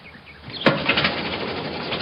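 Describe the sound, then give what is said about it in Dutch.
An old automobile engine coughs into life with a sudden bang, then keeps running with a loud, rough, sputtering noise. No one speaks. “Dat ding beweegt zich voor door ontploffing.”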